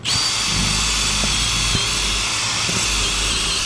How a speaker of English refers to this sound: He then drills a 1-inch hole into the roof for the water pipe.